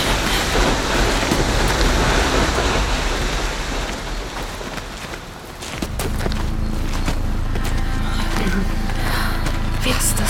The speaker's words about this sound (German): Der Wasserfall ist doch eh so laut.